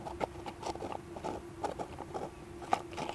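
A wing nut on a trap stand is being unscrewed to lower the stand, giving a string of squeaky metallic grinding pulses with small clicks in an uneven rhythm, fairly quiet and with no one talking.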